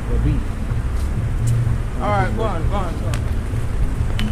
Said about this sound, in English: Oops. There's a car coming.